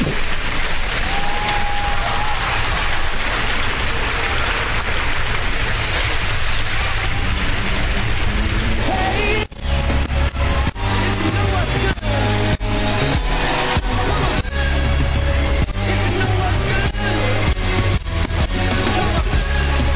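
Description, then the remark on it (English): A crowd applauds and cheers over music with a sustained tone. About halfway through, a band comes in with a steady beat and bass, and the clapping fades under the music. “Not to the applause.”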